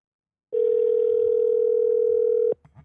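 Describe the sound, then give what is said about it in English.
A steady electronic telephone tone from a phone call being placed holds at one pitch, loud, for about two seconds, then cuts off abruptly with a click and a brief rustle. No one speaks. “Now let me try to call him.”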